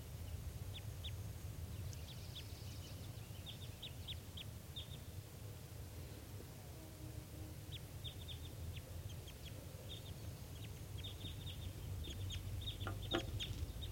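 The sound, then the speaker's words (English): A wild bird calls with quick, high chirps in scattered bursts throughout, fairly faint and far off, over a steady low outdoor rumble, at 9:22 a.m. as wild birds come in, sounding like type 2. Nobody speaks. “Planted at the wild birds and getting bird 387 calling vigorously and back.”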